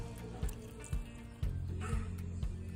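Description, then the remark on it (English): Water pours steadily into a bowl of chickpea flour to make a batter, a soft liquid stream with faint gurgles and a few dull knocks over a low background hum. “Next, I'm going to add my chickpea flour, my water.”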